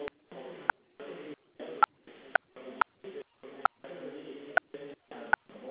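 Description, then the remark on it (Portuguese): Telephone keypad DTMF tones as a two-digit area code and a phone number are dialed into an automated phone service to update a registration: a quick run of about eleven short beeps in an uneven rhythm, each separated by a brief gap and marked by a sharp click. “Por favor, digite o DDD com 2 dígitos e, em seguida, o número do telefone fixo ou celular que deseja atualizar em seu cadastro.”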